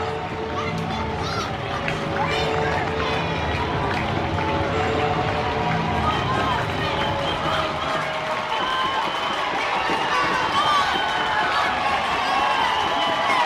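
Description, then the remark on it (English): A Friday night crowd at Salem Field baseball stadium cheers for the home team in a loud, steady roar of many voices with scattered clapping, holding strong for the whole stretch without letting up. “Friday night crowd here at Salem Field trying to get behind the home team.”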